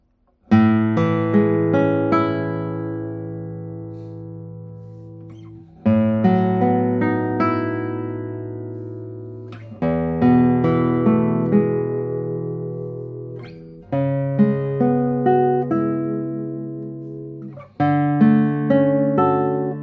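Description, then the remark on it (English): An Andrea Tacchi acoustic guitar with a slightly elevated fingerboard plays a handful of loud, ringing chords and notes, each one struck sharply and left to sustain and fade for a few seconds before the next. No one speaks. “Let me play a few notes on it and you will hear it.”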